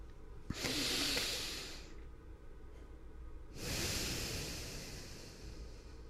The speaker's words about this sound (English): It's really relaxing. Breathing? Yeah, it feels so good. Do you ever just take like a really deep cleansing breath?